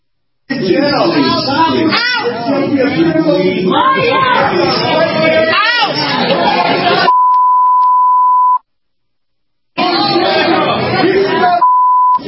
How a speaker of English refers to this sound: And the reason you heard the bleeps in there is because that's where they deleted the profanity that was in there. Now, some of the people that were yelling, this was at a rally, Democratic Congresswoman in California.